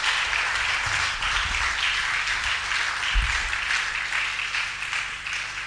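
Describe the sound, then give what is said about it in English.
A church audience claps for the Lord during a sermon in a sustained, dense burst of applause, steady and loud for several seconds before tapering slightly at the end. “Oh, let's clap for the Lord.”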